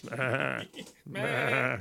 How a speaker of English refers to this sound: What would it be? Sheep? Do you have the sound of sheep in the background?